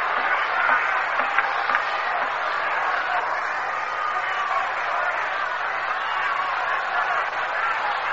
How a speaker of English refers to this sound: Johnny Keene is not aware of the nature of the fans at the Polo Grounds who have been cheering here despite the fact that the Mets are trailing by 15 runs in the bottom half of the ninth inning.